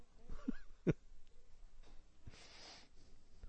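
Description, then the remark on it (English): A nose being blown: a couple of short, snorting bursts followed by a longer, breathy honking blast, moderately loud, with no talking. “Even blow your nose.”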